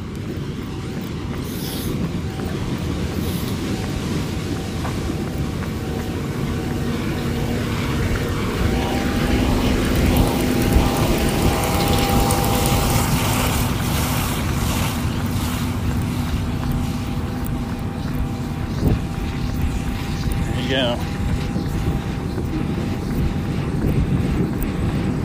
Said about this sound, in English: Harvester, 5 o'clock right now. Going down the corn row. That's right. Genuine South Central Pennsylvania farm racket.